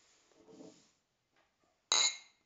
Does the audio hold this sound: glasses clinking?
yes